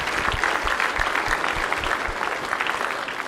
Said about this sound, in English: I think the choir did a great job, did they not? How about if we give them a big round of applause? Amen. Amen.